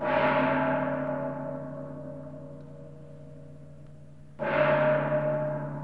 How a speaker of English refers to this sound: Leaders of various faiths took turns sounding a gong in the Catholic cathedral, ringing it once for each of the dead in the worst mass shooting in recent U.S. history.